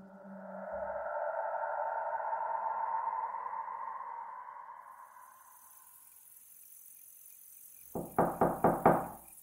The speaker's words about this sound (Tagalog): Naputol ang usapan namin nang biglang may kumatok sa pinto.